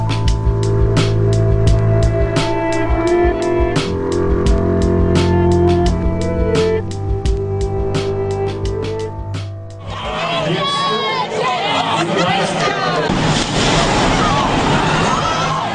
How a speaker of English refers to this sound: Raw sound there from the finish line at the Boston Marathon last year. The first explosion there, and seconds later came another.